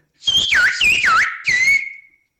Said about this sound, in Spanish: Hay otras cositas, como por ejemplo, si sustituyes una palabra, chiquillo, por ejemplo, tiene tres sílabas, pero si silbas, por ejemplo, rinoceronte, estamos hablando de cinco sílabas, por tanto.